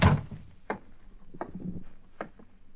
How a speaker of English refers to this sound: As I opened the door, the drapes swirled across the room. A door slammed behind them.